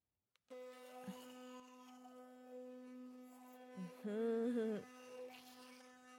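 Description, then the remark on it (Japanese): An electric toothbrush with toothpaste on it is switched on and buzzes steadily with a constant high-pitched whine, starting abruptly and running for several seconds, its pitch wavering and growing louder briefly as it presses against teeth. “この電動歯ブラシを考えた人、天才だよね。”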